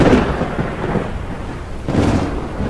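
A thunderstorm at night rumbles with deep, rolling thunder over steady rain, the low booms swelling at the start and again near the end, loud with no voices.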